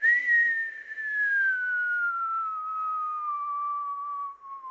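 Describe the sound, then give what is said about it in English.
A man blows a single long, slow whistle, sustained for several seconds and gradually sliding downward in pitch, steady, with no talking over it. “Imogene's dad blew out a long, slow whistle, just like this.”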